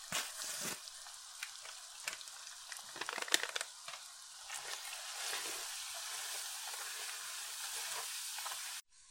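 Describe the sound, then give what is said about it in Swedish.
Browned minced meat for taco filling sizzles and crackles steadily in a hot pan, with scraping stirs and occasional sharper pops early on, continuing without talk until it cuts off abruptly. “Då är köttfärsen färdigbrynd och det är dags att krydda.”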